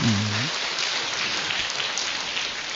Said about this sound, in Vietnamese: giới thiệu luôn quý vị là chị này là có hai cái bằng tiến sĩ luôn, chứ một cái như vậy mà học Phật, cho nên cho thêm tràng pháo tay lớn lên cho nó.